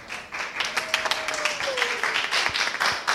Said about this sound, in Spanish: Un aplauso a los Lion Record.